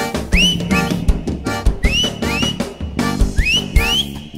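Bright whistled notes sweep upward in short repeated phrases, about four bursts, riding over a loud, steady beat with full backing music and no voices.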